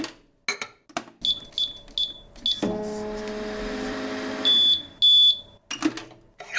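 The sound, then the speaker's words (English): A microwave reheating food: its door clunks and a quick run of high electronic beeps sounds as buttons are pressed, then a steady hum with its turntable motor drones for a while before a few more sharp beeps and clunks. “I'm going to yes, put it back in the I microwave.”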